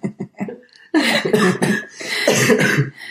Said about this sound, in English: I can't laugh because it makes me cough.